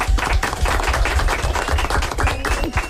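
applause

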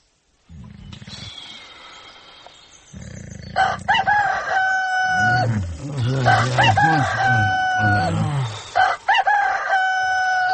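rooster crowing alarm

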